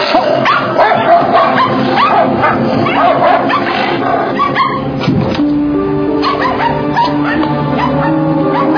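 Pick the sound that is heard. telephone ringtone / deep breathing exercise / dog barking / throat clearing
dog barking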